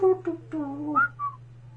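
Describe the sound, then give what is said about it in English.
A person whistles a few short, sliding notes, the pitch wavering up and down before ending on two higher chirps, with a steady low hum underneath. “Like, they're all looking like they're whistling, like...”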